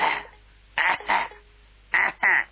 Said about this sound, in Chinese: 连唱带弹搁了一块儿，大约拿现在时间说得有四十分钟，这段才唱完。一拉腔儿，好，嗓子都冒烟了，赶紧咳嗽。